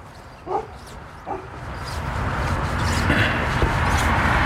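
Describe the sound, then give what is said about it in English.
A dog barks twice, about a second apart, then falls quiet while a steady outdoor background hiss gradually swells a little louder. “Now I'm even talking to dogs.”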